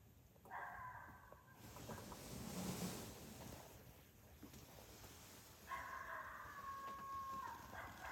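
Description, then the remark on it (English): Two sustained, wavering coyote challenge howl calls rise out of the background, one early and one near the end, separated by a stretch of rustling ambient noise and faint barking. “It's a challenge, Al. For what? For a coyote.”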